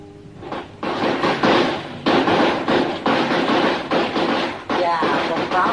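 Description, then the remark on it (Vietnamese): A loud, sustained crackle of rapid, overlapping pops bursts out in uneven waves, with brief dips between clusters, like a long string of firecrackers going off continuously for several seconds; the firecrackers are being set off for Tết, the Vietnamese Lunar New Year. “Quá ta đó nổ như vậy nghe mới đã tay chứ.”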